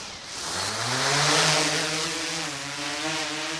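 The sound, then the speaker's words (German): Rotors of a four-arm, four-propeller, 3.5-kilogram camera drone with a 4K camera underneath whir up to speed, their loud buzzing whine climbing in pitch over the first second, then holding a steady, dense hum with a hiss of air as it hovers 2 metres up, stabilised by GPS. No one speaks. “Laut sirrend steht das Gebilde jetzt in 2 Metern Höhe in der Luft.”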